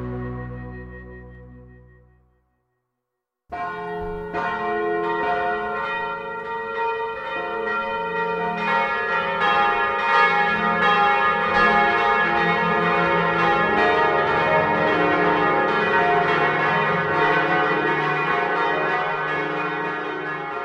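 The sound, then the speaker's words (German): All the church bells of Bern ring together to ring in a church festival, in a dense, overlapping clamor, a rich wash of tolling tones that swells and stays loud after a brief fading bell and a moment of silence. “vor 8 Uhr am Abend werden sämtliche Glocken das Kirchenfest «Himmlische Stadt» einläuten. Das bunte Durcheinander soll die Mehrstimmigkeit des Berner Kirchenlebens symbolisieren.”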